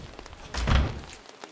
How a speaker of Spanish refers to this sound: Ángel Álvarez, el cabeza de familia, abre la puerta.